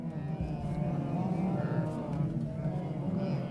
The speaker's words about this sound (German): Hunderte Gnus drängen sich am südlichen Ufer des Mara-Flusses. Sie schnauben, grunzen und blöken aufgeregt. Ab und zu nähert sich ein besonders mutiges Tier den Fluten und schreckt wieder zurück vor den lauernden Krokodilen im Wasser.